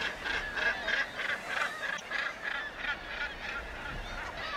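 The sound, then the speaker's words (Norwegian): A seabird colony in full cry at Gjesværstappen bird reserve near the Nordkapp plateau in northern Norway, many bird species summering there: many raucous, honking calls overlap in a steady, dense chorus that never lets up, with no voices, only a faint low rumble underneath. “Hit kommer de, alle slags folkearter, for å se på dette utrolige, urolige mangfoldet av fuglearter som har tatt sommerbolig her nord.”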